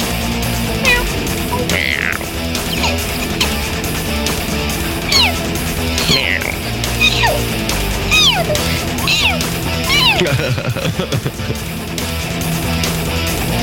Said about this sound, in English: Best meow in the game. You like that?